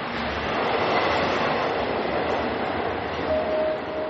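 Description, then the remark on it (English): An F subway train rumbles steadily along the tracks, a loud, continuous roar of wheels and motion, with a faint metallic squeal rising near the end. No one speaks. “While sitting on the F train, he talks about his favorite songs.”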